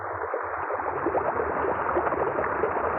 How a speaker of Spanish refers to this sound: ¡Cuánto tiempo resisto debajo de la cascada!